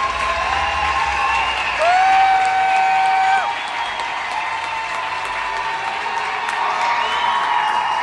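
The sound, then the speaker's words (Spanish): A large crowd applauds loudly and steadily at the close of an event's programme in a city, with cheers and whistles rising above the dense clapping throughout. “Una capital en la que sonó un fuerte aplauso, más allá de las fronteras, al cierre de la programación.”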